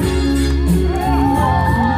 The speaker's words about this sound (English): Another cheer from the crowd. Listen to that crowd, guys.